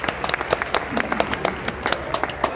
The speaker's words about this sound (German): jetzt kommen unsere fantastischen Ella und Timo. Applaus, Applaus!